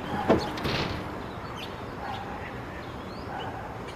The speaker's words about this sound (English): Please lock the door.